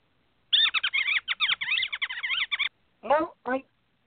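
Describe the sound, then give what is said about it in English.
Rapid, high-pitched squeaking of mice chatters in a busy stream of chirps for about two seconds, then two shorter squeaky bursts follow after a brief pause. “Thank you for Google and the people upstairs and the mice who kept interrupting.”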